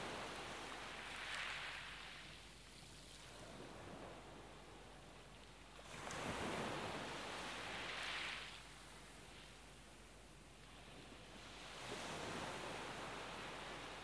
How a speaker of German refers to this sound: Du genießt den Blick über das Meer, das Rauschen des Meeres wirkt sehr beruhigend auf dich.